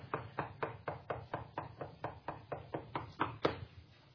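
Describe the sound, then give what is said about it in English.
Steady, rapid knocking on a door, standing for Peter at the door in Acts chapter 12: about fifteen even raps in quick succession, moderately loud, with no voices. “What is that? And there's Peter at the door.”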